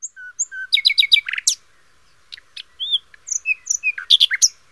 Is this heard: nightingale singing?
yes